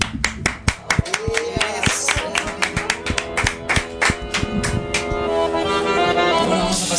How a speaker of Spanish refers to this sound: aplaudimos al colectivo, ¿eh?